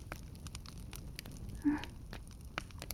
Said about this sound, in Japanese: もし嫌でなければ、このまま、こうやってくっついたまま、暖炉を楽しみましょう。